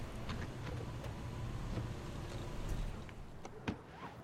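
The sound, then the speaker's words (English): A gray compact sedan pulls up to a house, its engine a steady low rumble with faint clicks and a soft thump near the end. No one speaks. “Now, a gray compact sedan pulls up to the house.”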